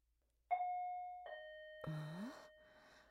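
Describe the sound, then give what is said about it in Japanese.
A two-note ding-dong intercom doorbell chime rings out clearly, its tones lingering, followed by a brief breathy, rising vocal sound and a soft hiss as it fades. “とりあえずインターホンで。”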